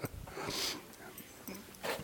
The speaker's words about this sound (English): And I told you I'm the crybaby. I have to blow my nose. Oh, God.